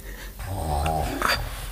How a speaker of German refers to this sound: Wie kriegen wir ihn auf, ohne den Schnarcher zu wecken?